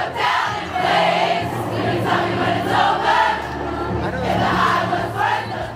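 A huge crowd sings along together outdoors, a loud, dense wash of many voices that swells and dips in waves, with a sustained melodic drone carrying through the whole time.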